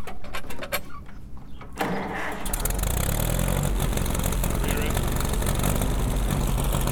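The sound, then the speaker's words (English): An old 1940s tractor engine starts up and settles into a steady, loud, rumbling idle, with some faint talk and rustling in the first couple of seconds before the engine drowns everything out. “These are like old like tractors from the 40s. Cool. We're lucky enough to be able to like rip and roar on them.”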